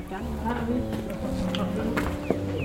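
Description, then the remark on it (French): Footsteps of people walking outside along rue des Sources, a street lined with new houses, a loose series of soft thuds at an unhurried pace, with low murmuring voices and outdoor ambience running underneath. “Alors on se met en marche, on est bien couvert.”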